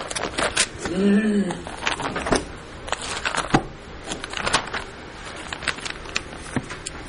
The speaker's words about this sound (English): Somebody said they could hear these pages turning on our recording. And I say that's a good example of the fact that we're all exercising our fingers and studying the Word of God.